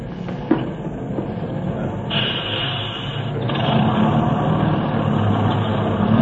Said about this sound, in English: Just at that moment, a bus came to a stop, and I got on.